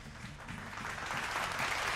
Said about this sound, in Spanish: Un aplauso para nuestro invitado de hoy.